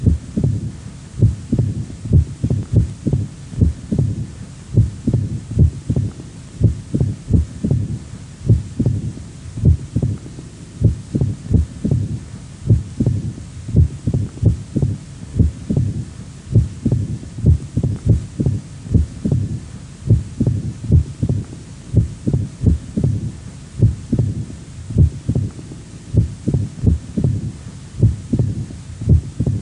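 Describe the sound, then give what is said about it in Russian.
A stethoscope recording of a heartbeat at the first auscultation point of a female patient with mitral stenosis and atrial fibrillation. The rhythm is irregular: loud, sharp first sounds, an extra snapping click from the mitral valve opening, and a low rumbling diastolic murmur between beats. It continues steadily throughout with no talking. “Прослушайте запись, сделанную в первой точке аускультации у больной со стенозом отверстия митрального клапана и мерцательной аритмией.”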